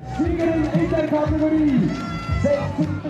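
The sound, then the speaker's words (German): Busy outdoor crowd at a triathlon finish area in Rapperswil, with many overlapping voices and occasional raised calls, a steady loud hubbub throughout, as runners pass through the finish area. “Läufer rennen kurz durchs Zielgelände und gehen auf die letzte Runde. Andere sind fertig und rennen erleichtert durchs Ziel.”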